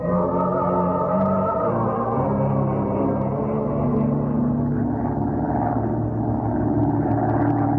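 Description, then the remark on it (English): A steady, loud airplane engine drone roars through the sky throughout, with strong low harmonic tones that slowly shift downward in pitch. No voices are present. “Power, harnessed in a winged bullet shooting through the sky.”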